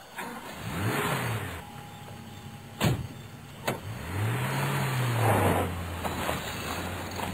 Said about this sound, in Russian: И машина с ревом ринулась вперед. Она стремительно пронеслась по базарной площади